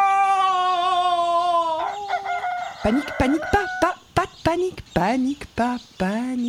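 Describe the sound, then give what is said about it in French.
A rooster lets out a long, drawn-out crow, followed by a rapid series of sharp, choppy clucks from chickens, all loud. “Adieu, veaux, vaches, cochons, poussins, coqs, aubergines, courgettes, oh, pommes de terre, blé, orge, panique.”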